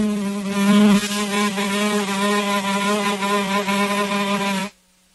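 A loud, low-pitched insect buzz drones steadily for about four and a half seconds, wavering slightly in pitch, then cuts off abruptly: the buzzing of a giant fly in a French comedy film.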